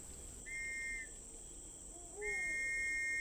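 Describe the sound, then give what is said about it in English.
Two steady, high-pitched whistle blasts sound outside, a short one followed by a longer one, over a faint constant hiss with no talking; the whistle is blown because someone has not cleaned up after their horse. “Oh, don't worry about that. I know that whistle.”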